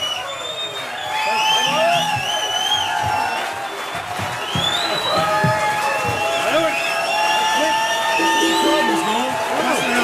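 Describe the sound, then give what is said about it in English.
A large crowd cheers loudly and steadily for about ten seconds, screaming for an encore from the bluegrass band a band, with high whoops and shouts rising above a wash of applause and excited voices. “As you can tell, the crowd is screaming for an encore.”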